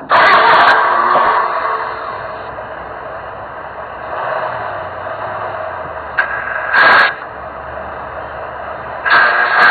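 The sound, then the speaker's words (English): A car engine cranks and sputters in several loud bursts as someone tries to restart it after a crash, with a steady mechanical hum in between; the attempts never quite catch. “I'll just try, and start the car again, actually.”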